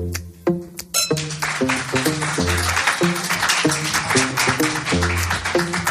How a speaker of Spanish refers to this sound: Aplauso también, además de para don Ángel, es para José Luis Corrochano